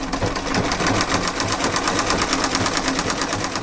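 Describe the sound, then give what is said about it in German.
A single sewing machine rattles steadily on College Road in Jaffna, belonging to a couple sitting on a bast mat outside their ruined house; its fast regular needle strokes form a continuous mechanical chatter with no voices over it. “Heute hört man hier nur das Rattern einer einzigen Nähmaschine.”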